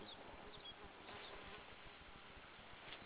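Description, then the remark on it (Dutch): A mosquito's thin, whining buzz drifts past the microphone at a glacier, holding steady for a few seconds over a low background rumble, with no one speaking. “Bedankt voor de mug die net door het gelawaai heen vloog.”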